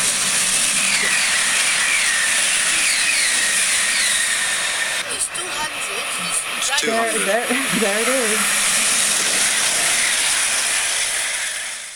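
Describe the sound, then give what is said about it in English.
A loud, steady steam hiss fills the scene, with a few mechanical clunks midway as a train slows to a stop and its doors are about to open, and a brief muffled voice rising over the hiss. “The train is slowing down. The doors are about to open, and look who it is.”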